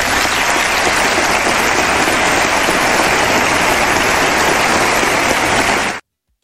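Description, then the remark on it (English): A large crowd applauds a 1995 speech by Bill Clinton on immigration, a dense, loud wash of hand clapping that holds for about six seconds before cutting off abruptly. “Let me give him some hand claps personally.”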